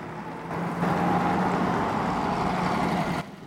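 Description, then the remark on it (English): A bus engine rumbles up and holds a steady, droning hum with a faint whine as the bus pulls away, before cutting off abruptly. “As the bus pulls away, Billy runs to the back, bangs on the window and shouts”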